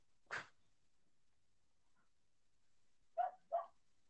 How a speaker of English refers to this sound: Bark, bark. Bark, bark, bark. Shut up, dog.